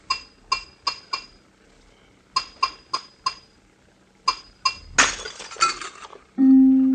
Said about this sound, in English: The glass you just heard broken was not ordinary glass. It was a closed vessel of exact contour of the man's head which it held. It was raised exactly 1 millimeter above the skin all around and above the hair.